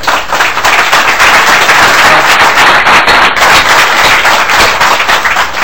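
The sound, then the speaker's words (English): A crowd applauds steadily, a dense, even wash of many hands clapping at once that holds at a loud level for several seconds without any speech. “There will be no more applause unless I say something.”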